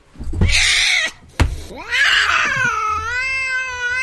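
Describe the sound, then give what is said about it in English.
A loud, harsh cat screech bursts out as a person falls onto the cat on a count of three, breaks off with a thump, then rises again into a long, wavering, strained yowl that holds until the end. “You've got to just fall onto the cat, okay?”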